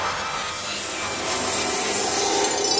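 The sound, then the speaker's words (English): A rusty door scrapes open in one long, rough grinding creak that holds steady for about three seconds and grows slightly louder toward the end, with no voices. “Please close the door. It's getting a little bit rusty in here.”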